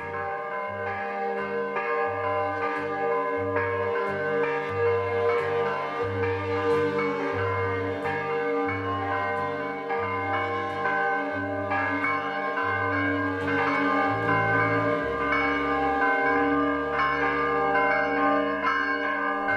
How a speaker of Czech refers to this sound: Zvuk prvih zvona sa Saborne crkve kao da je probudio srpsko stanovništvo naše prestonice iz dubokog sna i kao da je oživeo sve slojeve naroda i u njemu izazvao i utvrdio verovanje u bolju budućnost Srbije i njezine prestonice.